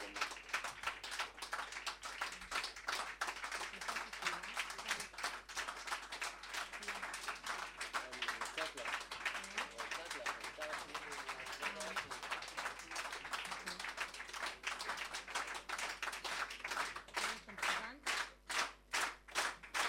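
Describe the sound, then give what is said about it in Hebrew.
An audience applauds loudly, a dense wash of many hands clapping that gradually falls into unison, ending in steady, rhythmic synchronized claps. “זה נורא מעניין הקטע הזה של המחיאות כפיים, כאילו, האם יש איזשהו מישהו שיש לו מטרונום?”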